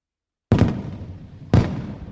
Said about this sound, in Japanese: あ、花火始まったよ、見に行きたい。